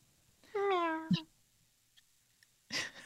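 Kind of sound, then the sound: vocal imitation, imitated cat meow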